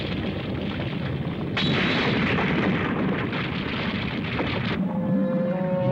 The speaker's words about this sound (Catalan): Continuen caient roques del sostre sense parar.